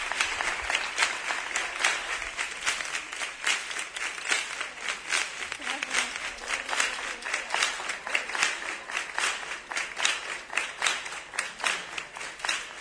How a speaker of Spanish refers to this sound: Una Carolina emocionada en estos momentos. Que estos aplausos quieren consolar.